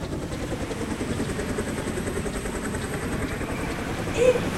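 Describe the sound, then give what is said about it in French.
A helicopter passes overhead, its steady thumping rotor chop and engine drone filling the scene continuously, loud, with a slight swell near the end. “Oh, regarde, un hélico.”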